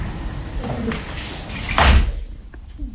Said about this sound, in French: Oula, j'ai claqué la porte.